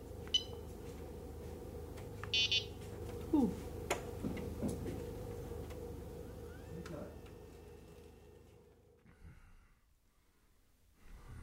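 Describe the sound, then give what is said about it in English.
A short electronic beep sounds from a wheelchair that a hospice patient is playing with to make it beep, with a brief tone at the start, over a steady low hum, faint breathing and scattered small clicks, before things fall quiet. “Her illness makes it hard for her to talk, but she lets me record when she plays with her wheelchair. She likes to make it beep.”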